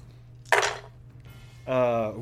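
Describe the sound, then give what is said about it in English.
Dice are shaken and rolled for damage in a tabletop game, giving a short, sharp rattle and clatter, fairly loud, over a low steady hum. Soon after, a voice briefly sounds. “We shake the maraca.”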